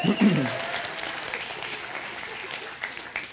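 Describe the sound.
Steady applause from an audience for a man who brought the speaker a bottle of water, a dense wash of clapping that holds at a fairly even level throughout, with a brief low voice-like burst at the very start.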